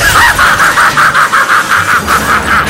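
A gong signal sounds as a loud, steady run of rapid, evenly pulsing mid-pitched tones, about a dozen beats in under three seconds, over a noisy rumbling background with no talking.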